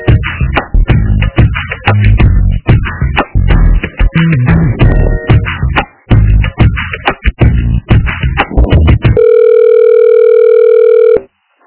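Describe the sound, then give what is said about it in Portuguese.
Thin, phone-line sounding tones chop rapidly for several seconds, then give way to a steady, sustained telephone ringing tone near the end, loud and clear with no one speaking, as a call to an education department is transferred. “Secretaria de Educação, telefone. Eu vou te transferir, tá?”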